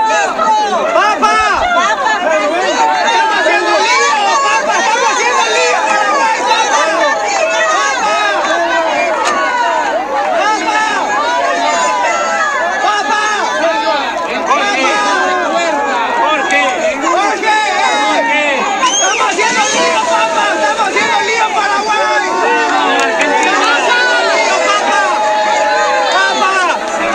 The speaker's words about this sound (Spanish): Les voy a compartir de vuelta lo que jóvenes le gritaron al Papa Francisco apenas él salía ahí en el Papa Móvil.